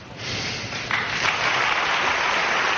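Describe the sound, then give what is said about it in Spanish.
An audience gives a sustained ovation to an actor from Benicàssim: a crowd applauds steadily, a dense wash of many hands clapping that swells slightly and holds at full strength throughout, with no voices standing out. “Visiblemente emocionado el actor de Benicàssim y con esta ovación, una ovación que también recibió el actor internacional Richard Gere”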